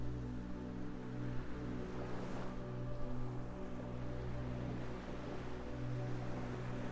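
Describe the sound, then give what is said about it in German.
A steady, continuous rush of ocean surf on a beach with a low, droning hum running underneath, holding a fairly even loudness throughout and swelling slightly near the middle. No one speaks. “Du kannst das Rauschen der Wellen hören.”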